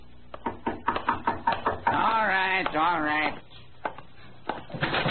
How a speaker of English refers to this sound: A tall, slim man about 40 had been sitting in the front parlor of his rooming house. He'd heard a knock at the door, and he was on his way to answer it.